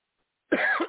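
human body sound, coughing and throat clearing

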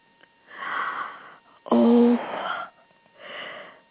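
human body sound, yawn

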